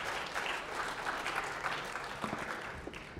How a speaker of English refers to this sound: All right, thank you. All right, so a round of applause again. All right, thank you, guys.